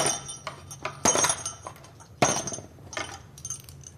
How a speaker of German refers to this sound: Goldene Schellen in einer weißen Schachtel und ein Gedicht dann noch.